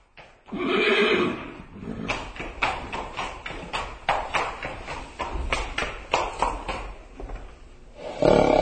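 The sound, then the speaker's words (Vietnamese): A horse whinnies loudly at the start, followed by a rapid series of hoofbeats and snorting as it draws near, with another whinny at the end. “Mồ côi vừa đi được một lúc, thì ngựa quan tới.”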